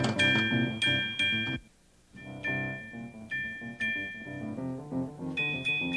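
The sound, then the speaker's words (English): A toy trolley bell rings out in bright, clear dings, struck several times in a loose rhythm over a light musical accompaniment, with a brief lull partway through, as the trolley arrives for the time of make-believe in the Neighborhood of Make-Believe; no one speaks. “Oh, there's trolley.”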